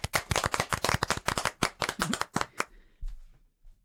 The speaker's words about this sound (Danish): Hun skal have en klapsalve herfra. Ja, det skal hun.